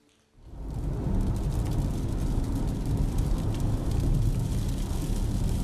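Steady rain patters against a car driving home over a deep, continuous road rumble, starting abruptly and holding at an even, fairly loud level throughout, with no voices.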